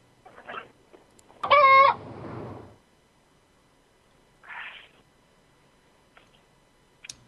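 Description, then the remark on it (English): A chicken rummaging through cards clucks: a soft cluck, then one loud, drawn-out squawk, and a couple more quiet clucks spaced out among stretches of near silence, with no one talking. “This chicken here, it's just rummaging through my cards.”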